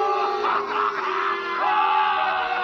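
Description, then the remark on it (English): A dense crowd at the court trial of Émile Zola jeers and yells at him in a continuous roar of overlapping shouting voices, loud and sustained throughout with no pauses. “The crowd encouraged to jeer at the man of truth.”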